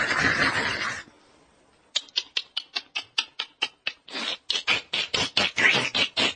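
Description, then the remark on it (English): A voice imitates monkey chattering: a burst of breathy noise, a short pause, then a rapid run of sharp, clipped squeaks and chirps fired off in quick succession, loud. “So then you do it, because monkeys don't make such sweet sound, no?”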